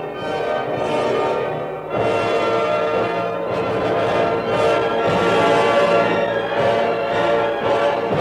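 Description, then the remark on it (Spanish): Church bells peal amid a full orchestra performing an overture with two orchestras facing each other, the bells rung as they sounded in Russia at that time; their bright ringing tones blend into dense, loud sustained chords that continue without pause throughout. “Para tocar esta obra, dos orquestas se sitúan una frente a la otra como si fueran dos ejércitos, y en medio de los acordes se hacen disparos con armas verdaderas y suenan campanas como sonaron en Rusia en aquella época.”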